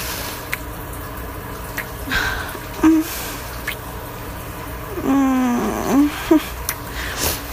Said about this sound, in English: I know they can barely hear over the shower, but I don't want to get caught.